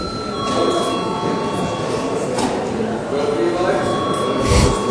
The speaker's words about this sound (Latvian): Debates turpināsim pēc pārtraukuma. Lūdzu zvanu.